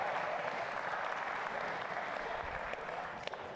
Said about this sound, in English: She did well. I think that deserves an applause.